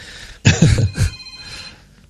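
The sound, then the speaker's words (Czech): A telephone rings once for an incoming call, a short, fairly loud burst of bright ringing tones that fades into a lingering ring over quiet background. “Ty už tady máme další telefon.”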